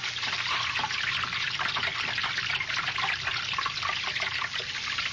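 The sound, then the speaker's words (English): Steady trickling water runs continuously with a bright, bubbling hiss, fairly loud, with no voices over it. “I hear it. Yet no water here.”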